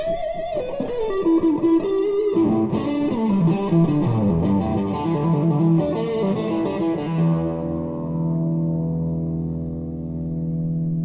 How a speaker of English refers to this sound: The other thing that was invented for him was the fuzz tones.